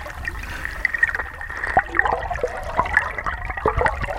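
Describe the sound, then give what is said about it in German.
Flowing river water recorded with an underwater microphone held into the current: a steady wash with bubbling, gurgling pops and sharp clicks scattered throughout, fairly loud, no voices. “Wie klingt denn eigentlich die Strömung mit dem Unterwassermikrofon? Ich halte es mal rein. Plätschert ein bisschen.”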